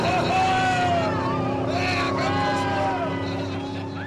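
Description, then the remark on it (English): Several lobster boat engines throttle up together as the starting flag drops at a Maine Lobster Boat Racing Association race, a loud, continuous drone with rising, whining revs layered over a deep rumble. “When the boats pull into line, the flag drops, and the captains hit the throttle.”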